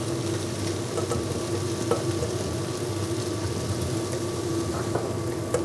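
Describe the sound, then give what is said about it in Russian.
Food sizzles steadily as it is put into a hot pot, a dense, even hiss broken by scattered crackles and small pops, with a faint low hum underneath and no one talking. “Вот это уже закладываю в кастрюлю.”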